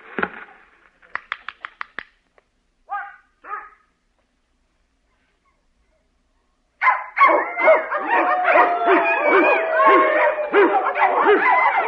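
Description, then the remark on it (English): A few sharp, excited dog barks and yips, a pause, then a sustained frenzy of overlapping barking, whining and howling from several dogs, loud and continuous. “Where was I? Oh, yes, dogs.”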